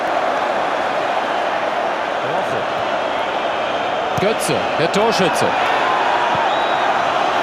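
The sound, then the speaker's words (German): A huge stadium crowd of German football fans roars and cheers continuously, a dense wall of noise, while a male commentator briefly speaks over it. “Eine Jubelexplosion bei den deutschen Fans.”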